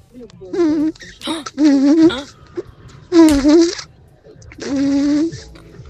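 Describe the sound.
A person imitates a buzzing fly with their voice on the Europa Plus radio soundcheck segment, making four loud, nasal buzzing bursts separated by short pauses, each wavering slightly in pitch.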